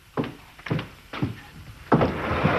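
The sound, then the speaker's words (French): A sliding door between a painting area and a photography area in a house-studio in Paris is handled: a few dull thumps at a steady pace, then a longer rolling, scraping slide as it opens. No one speaks. “Oui, alors voilà, son univers s'arrête là, le mien commence ici, mais heureusement, il y a une porte coulissante entre les deux.”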